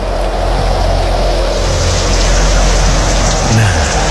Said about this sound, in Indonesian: Nah kan, pasti hujan deras turun.